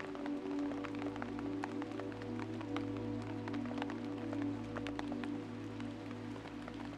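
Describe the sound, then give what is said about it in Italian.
Gentle raindrops patter irregularly on tree leaves, flowers and blades of grass, soft scattered ticks and taps running steadily throughout over a low, continuous humming drone beneath them. “Senti le prime gocce di pioggia che cadono dolcemente sulle foglie degli alberi, sui fiori, sui fili di erba e su di te.”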